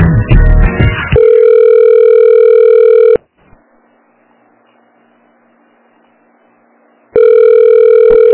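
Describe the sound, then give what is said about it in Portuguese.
A phone line rings during a call transfer to an extension: a short rustling burst, then a steady electronic ringing tone lasting about two seconds, a long quiet pause with faint line hiss, and the tone starting again. “Agora eu vou passar o senhor pro ramal dele.”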